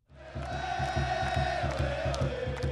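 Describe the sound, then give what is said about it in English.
A huge sold-out stadium crowd at a Seattle Sounders soccer match at Quest Field roars and cheers continuously, a dense wall of voices with a steady rhythmic thumping pulsing underneath, loud and immersive from start to finish. “Every seat is sold out, and the cheering is deafening.”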